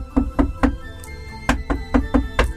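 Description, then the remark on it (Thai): Knocking on a door by someone who knocks instead of walking up to the door sensor: three quick raps, a short pause, then four more in an even rhythm. The knocks are fairly loud, with no one speaking. “ใครน่ะมาเคาะประตูไม่ยอมเดินเข้ามาหาเซ็นเซอร์แม่เปิดมอนิเตอร์ดูสิว่าใครมา”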